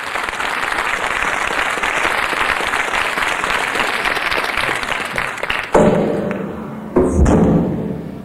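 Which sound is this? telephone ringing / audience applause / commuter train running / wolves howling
audience applause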